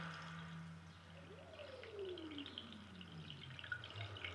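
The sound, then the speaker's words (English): Water runs steadily in a continuous wash, with a faint whistling tone that slides downward partway through. No voices, just the even flow of water. “So that's just like a water sound.”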